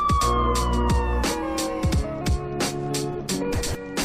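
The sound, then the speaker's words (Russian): A loud emergency vehicle siren wails, its pitch sliding slowly downward over several seconds, mixed with sharp percussive hits and a steady low rumble underneath. “И тут же рвет сердце сирен дикий звук.”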